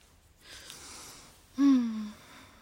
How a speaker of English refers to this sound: Ooh, that was a big yawn. You tired? You sleepy? Yeah? Does my baby need some sleep right now? You wanna take a little nap?